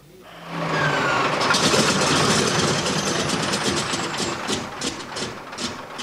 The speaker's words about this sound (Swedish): Den 4 april, helt enligt planerna, gick motorn igång vid första försöket efter 29 års tystnad. Motorfelet som avbröt flygkarriären 1968 hade visat sig vara en skadad kolv och cylinder som bytts ut.